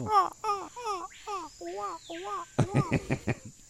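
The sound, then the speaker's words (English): Rainforest ambience: a steady, shrill insect-like hum underlies about seven evenly spaced, warbling bird calls, followed by a burst of quicker, harsher chirps toward the end. “Forget the rainforest noise.”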